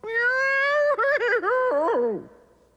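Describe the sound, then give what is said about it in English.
A woman's loud, sustained scream, high and piercing, wavering in pitch midway before sliding downward and trailing off after nearly three seconds, as she finds that what she put on her head is a sloppy, sticky cake, not her hat. “Muriel lets out a very loud scream.”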